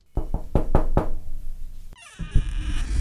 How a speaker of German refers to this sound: Mit bösen Mienen klopfen sie an die Tür.